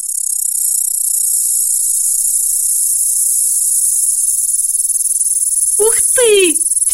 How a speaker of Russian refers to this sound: Так называется округлая перепонка, расположенная в основании правого надкрылья. А на левом надкрылье другое зеркальце с зубчиками. Кузнечик подрагивает надкрыльями, зеркальце трутся друг об друга, и получается звук.